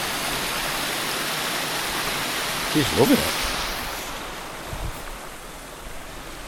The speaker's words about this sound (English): And the water's crashing down in waterfalls all through it in different spots.